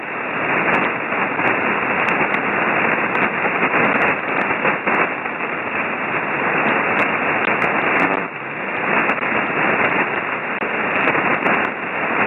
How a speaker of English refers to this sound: Hey, the band is crazy tonight, very noisy on my end. I guess we got some storms rolling across the area somewhere because I'm picking up static crashes.